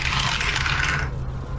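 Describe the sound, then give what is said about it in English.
Descent into Avernus dice tumble through a Cthulhu dice tower for an arcana check in a dense, rattling clatter that lasts about a second before cutting off abruptly, leaving only a low steady hum. “My arcana's not quite as good, but I have the Descent into Avernus dice and my Cthulhu dice tower.”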